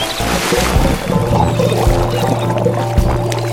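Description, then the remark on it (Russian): A boat engine rumbles steadily as the boat sets off on a river, water churning and splashing around the hull, a continuous low drone with no voices. “Все на борт. Отправляемся.”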